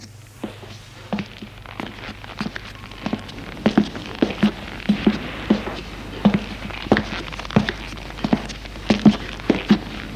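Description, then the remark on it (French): Footsteps walk at a steady pace, each step a distinct soft thud, growing a little louder partway through, over a low constant hum with no one speaking. “Des pas.”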